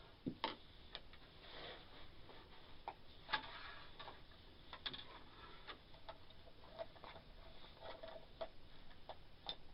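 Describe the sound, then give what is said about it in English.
A clock ticks steadily and quietly, its regular clicks repeating throughout against a soft background hiss, with no one speaking. “See the clock?”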